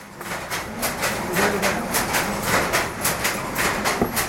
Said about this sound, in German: Das Rattern der Webstühle dringt aus Hunderten von Webstuben in die engen Gassen vom Azhar Park, einem muslimischen Wohnviertel in Varanasi.